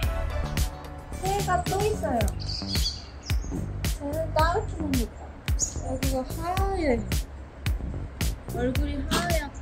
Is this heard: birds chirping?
yes